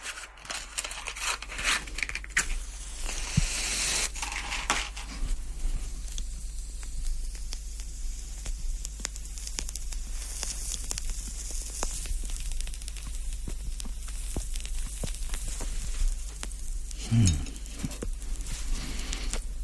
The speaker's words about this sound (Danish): Ja, så har jeg ild på cigaren igen.